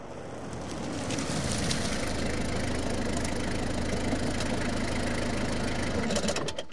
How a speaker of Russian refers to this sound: Любовь Александровна увидела в окно подъехавшую машину мужа